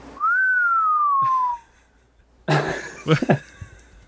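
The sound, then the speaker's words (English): A person whistles one clear, steady note that glides slowly downward for over a second, then stops. After a short pause come a few brief, breathy bursts of noise. “What was the whistle for?”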